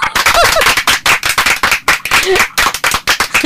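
Loud, rapid clapping by friends applauding a friend singing a song, many sharp claps in a quick, uneven rhythm that goes on without a break, with a couple of brief vocal whoops mixed in.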